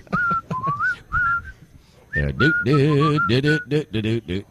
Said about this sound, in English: I think it's the whistling in the background.